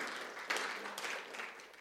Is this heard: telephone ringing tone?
no